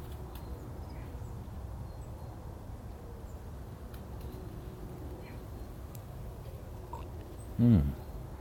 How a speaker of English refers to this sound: Yet another plane.